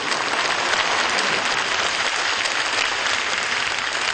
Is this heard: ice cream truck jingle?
no